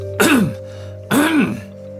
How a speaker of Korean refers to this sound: 페르시아인은 칸막이 벽 쪽으로 가서 크게 헛기침을 했다.